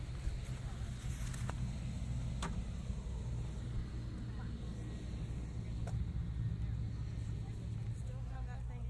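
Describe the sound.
A steady, low rumble of road traffic runs throughout, constant, with brief sharper transients now and then and faint, indistinct voices mixed in.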